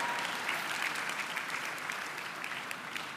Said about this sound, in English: Come on and give the Lord a round of applause.